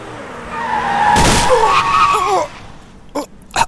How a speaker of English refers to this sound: You have just been hit by a car that JPC is driving.